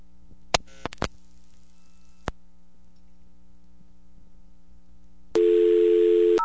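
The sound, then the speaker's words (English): A few sharp clicks on a quiet, humming payphone line, then a loud steady electronic tone comes in near the end as the call connects. No one speaks. “And the call goes through.”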